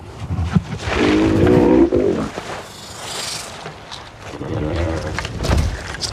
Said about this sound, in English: So the groan of the male actually became, with some work and you know, adjustments and stuff, became the basis for Drogon's purr with her.